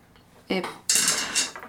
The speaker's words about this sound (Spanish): Yo sigo picando cebolla.